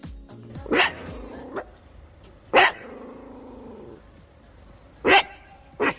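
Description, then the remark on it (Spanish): A dog lets out four sharp, widely spaced barks, with low sustained growls rumbling between the first few, clear with no one talking; the dog is reacting to wild boars walking through the streets of Burela. “De los ladridos y gruñidos de algún perro que no le gustaba la presencia, pero es que ellos así pues tan panchos.”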